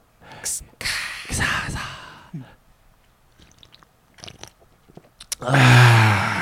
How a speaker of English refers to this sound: A group sip of LaCroix to start off.